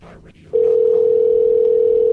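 After a brief low murmur, a loud, steady telephone dial tone switches on as a call is placed during a radio phone show, humming continuously and unchanging until the end.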